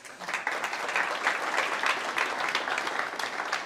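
A crowd applauds itself for a protest in Berlin, a dense wash of many hands clapping at an even, sustained loudness from start to finish with no voices standing out.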